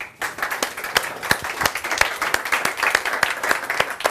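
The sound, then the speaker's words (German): Applause welcoming Roland von Oy as a guest on the show fills the whole clip: a dense bed of hand claps with a steady, rhythmic beat of sharp claps standing out about three times a second, sustained and fairly loud, with no talking. “Ich starte mal mit Roland von Oy und der tosenden Applaus.”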